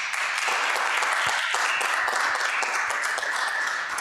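An audience applauds in a steady, dense wash of many hands clapping at once, loud and even for the full four seconds with no voices over it.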